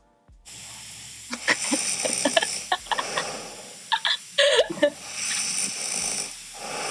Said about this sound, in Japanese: でね、そのね、音がね、私のいびきの音をね、ちょっと聞いてくれる？ほんと衝撃だった、ショックなんだけど、いきますよ。